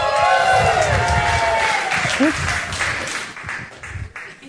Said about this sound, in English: Big cheer for Jesus!